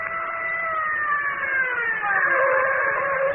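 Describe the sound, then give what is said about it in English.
A car's engine whines and drops steadily in pitch as the vehicle slows down and comes to a stop, fairly loud, with no voices. “Now stop the car.”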